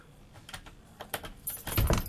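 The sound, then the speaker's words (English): Bright metallic jingling of keys in short, irregular bursts as someone opens a door, growing busier and louder, ending with a heavier clunk and rattle as the lock or door handle turns. No one speaks. “So, let's open the door.”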